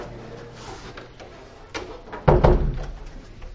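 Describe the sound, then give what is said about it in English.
A door is shut: a faint creak or click, then one loud, solid thud that rings briefly and fades. There is no talking, only a soft room hum. “Let's shut this door.”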